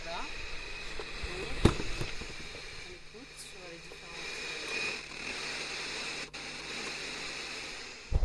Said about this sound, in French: Voilà, vous avez donc entendu qu'il n'y a rien sur la bande FM que des grésillements. Et donc, on ne peut pas vous parler en direct sur la bande FM, ce n'est pas possible.